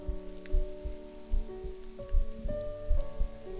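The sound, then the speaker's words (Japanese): Steady rain patters on a hard surface, with soft low thumps recurring about every half second and a sustained tonal hum underneath; nobody speaks. “雨濡れてきた。”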